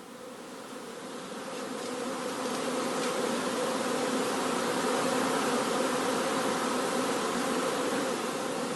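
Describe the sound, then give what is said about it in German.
A dense, steady drone of many honeybees buzzing at a hive entrance as they go in and out, swelling during the first couple of seconds and then holding a continuous, loud hum with no talking. “Wölfe, die jetzt noch raus und rein gehen, aber es ist zum Teil fehlen auch Königinnen.”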